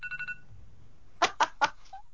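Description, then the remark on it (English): A phone timer alert goes off marking 20 minutes, the phone sitting directly under the microphone: a quick run of three short, high electronic beeps, then three loud, evenly spaced buzzy bursts, with no one talking. “Oh, there's my 20-minute mark.”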